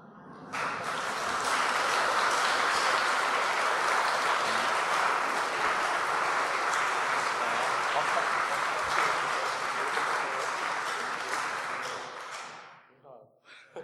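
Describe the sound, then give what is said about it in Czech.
Sustained audience applause for an organist lasts about twelve seconds, a dense steady wash of many hands clapping at even loudness before tapering off quickly at the end. “Tak ještě k té symbolické kytičce a k tomu potlesku”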